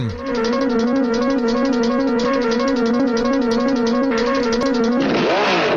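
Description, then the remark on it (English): A loud engine idles with a steady rumbling drone, its pitch stepping slightly, then swells and sweeps in a quick rev near the end. No voices. “You just sort of brum, brum. Like revving up. Brum, brum, brum.”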